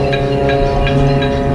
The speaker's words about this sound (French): J'aimerais quand même terminer par une note positive sur les applaudissements à 20h chaque soir. Ici à Marseille, ce sont les grands paquebots qui donnent le coup d'envoi avec un concert de sirènes.